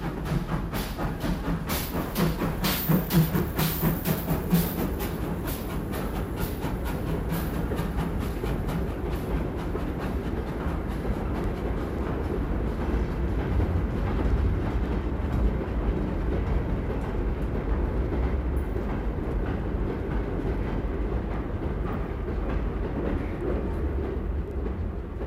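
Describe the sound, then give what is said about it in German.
A train ride heard from on board, from a stereo sound-effects record: a steady, loud rumble of rolling wheels with rhythmic clickety-clack over the rails, continuous throughout with no voices. “Da gibt es herrliche Sachen in Stereo, wie zum Beispiel diese Eisenbahnfahrt.”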